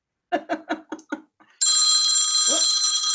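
A cell phone ringtone mimicking an old-fashioned telephone bell: five quick rhythmic bursts, then a loud, continuous bright metallic ringing that sustains to the end.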